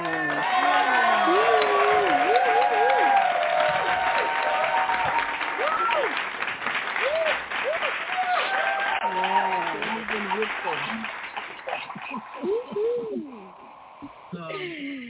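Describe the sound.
A crowd claps steadily for several seconds in hand-clap praise welcoming a co-host, while voices whoop and cheer over the dense patter, the applause thinning out toward the end.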